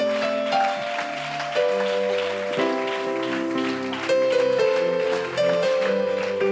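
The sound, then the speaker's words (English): A crowd applauds steadily, a dense crackle of clapping that continues throughout, while sustained organ-like chords change underneath at a moderate volume. “Vamos a darle un aplauso más grande.”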